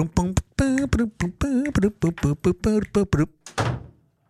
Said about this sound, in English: Slam the door.